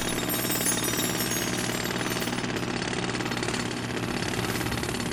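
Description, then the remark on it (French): A loud jackhammer pounds away continuously, its rapid mechanical hammering steady for the whole stretch, with a heavy engine-like drone underneath and no voices. “Un jour, je fais un voyage au fin fond de la Terre, avec un marteau-piqueur.”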